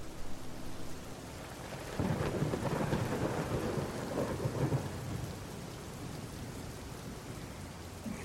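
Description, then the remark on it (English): Steady rain hisses throughout while a deep roll of thunder swells up midway, rumbling loudly for a few seconds before fading back into the downpour. No voices. “He enters with a burden of wood, and a noise of thunder is heard.”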